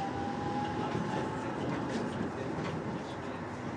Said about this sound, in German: Aber tatsächlich schon eine Sache, dass hier so noch eine Straßenbahn fährt, ist ja schon irgendwie beachtlich, ne?